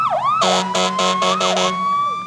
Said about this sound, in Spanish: Bueno, ahí bocinas, ciudad, sirenas, ciudad. Mucho ruido. Sí, mucho ruido, ciudad.